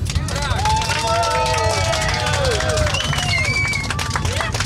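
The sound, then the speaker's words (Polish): A crowd of Polish passengers claps steadily after a plane lands on the Cape Verde Islands, a dense patter of applause with overlapping voices and a few cheers running underneath for several seconds. “Czy będą oklaski? Prosimy o oklaski!”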